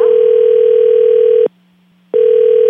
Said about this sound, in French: C'est pas des white noise, c'est des bips de téléphone.